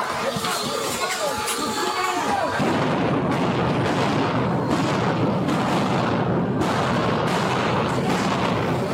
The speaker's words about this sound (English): Those are flashbangs.